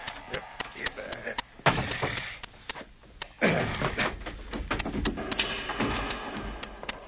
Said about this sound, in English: You lift the trap door.